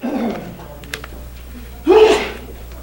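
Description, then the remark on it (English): A single loud sneeze bursts out near the end, a sharp breathy blast with a brief voiced tone, following a stretch of quiet background with a few faint clicks. “He's like a sneeze.”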